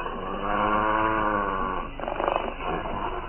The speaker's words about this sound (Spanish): Queda inmóvil. Oye perfectamente un gruñido amenazador.